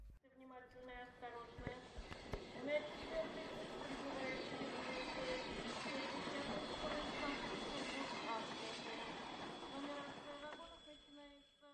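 A train travelling to Moscow rolls steadily along the rails, a continuous rumbling clatter with high metallic wheel squeal ringing through it, fading in and out at the edges.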